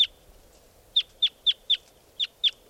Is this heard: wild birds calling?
yes